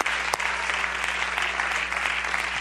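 A large group claps hands steadily, a dense, continuous patter of applause at moderate volume with no talking over it.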